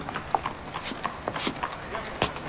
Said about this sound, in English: You see the white horse pulling that fiacre?